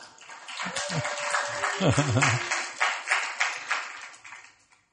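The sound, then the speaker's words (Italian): A small audience claps steadily for several seconds to encourage the speaker's hesitant wife as she is handed the floor, a dense crackle of hands that swells, then tapers off toward the end, with a brief voice rising and falling underneath near the start. “ma intanto io subito passo la palla a mia moglie, che è un poco esitante, però la vogliamo incoraggiare con un applauso.”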